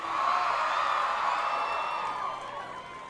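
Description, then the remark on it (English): A concert audience screams and cheers loudly, a dense wash of high-pitched voices and whoops sustained for a few seconds before starting to fade. “I told you, no screaming.”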